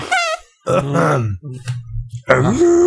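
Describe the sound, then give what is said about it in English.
A voice makes a series of silly fart noises with the mouth, a few separate bursts of low, buzzy, sputtering sound, fairly loud, with a long rumbling one in the middle. “That's back and forth farting there.”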